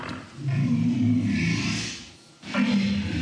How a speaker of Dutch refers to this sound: Hij gebruikte ook een briesend paard, een hond, een gans, een walrus. And this is a walrus.